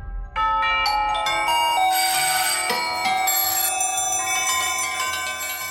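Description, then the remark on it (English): Many doorbells ring at once around the world to mark Airbnb's stock market debut on the NASDAQ, in a dense, overlapping clamor of bright chimes and bell tones, loud and continuous throughout, with no voices. “Airbnb made its stock market debut on the NASDAQ yesterday to the ringing of doorbells around the world.”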